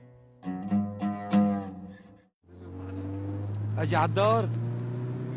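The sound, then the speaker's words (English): Voices talk at first, then a steady, loud low engine drone takes over as a car carrying men with guns speeds along a road way outside any town or village, with more voices briefly rising over the constant hum. “Yeah, right, so this is one of those moments where you're, like, speeding down the road in a car with dudes with guns.”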